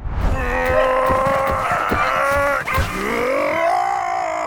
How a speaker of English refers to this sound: they're gone. You can stop yelling.